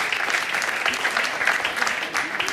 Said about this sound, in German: Ich bitte um einen tosenden Applaus